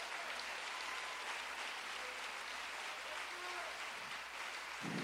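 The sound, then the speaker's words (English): An audience claps their hands unto the Lord, producing a dense, steady wash of loud applause that continues without a break for about five seconds. “Come on, clap those hands unto the Lord.”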